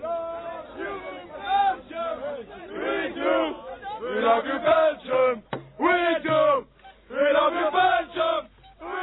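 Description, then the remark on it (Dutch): A crowd of Belgian football supporters cheers and chants in unison after the Red Devils won their Euro 2000 opening match 2-1 against Sweden before 50,000 spectators, loud rhythmic voiced bursts rising and falling in waves, a shouted chorus repeating across the whole stretch. “Zoals u het kan horen, hebben de Rode Duivels hun openingswedstrijd voor Euro 2000 gewonnen.”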